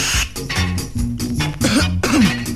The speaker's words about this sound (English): No, man, this make me cough, man.